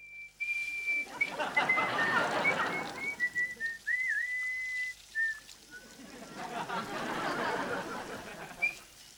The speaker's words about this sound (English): The boyfriend, Teddy, unzips his fly and starts whistling.